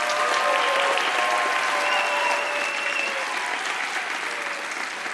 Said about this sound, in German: Deswegen auch nochmal einen großen Applaus